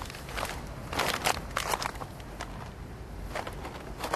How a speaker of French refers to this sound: En général, dans cette émission, vous entendez souvent des pas dans la neige, des pas dans les feuilles, dans les branchages. Là, c'est des pas sur des bouteilles plastiques. C'est un petit peu différent.